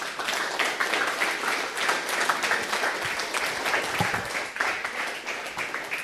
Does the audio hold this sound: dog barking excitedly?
no